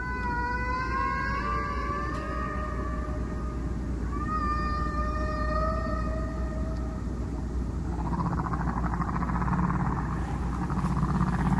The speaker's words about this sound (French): une langue non humaine qui est, en fait, les baleines à bosse d'Hawaï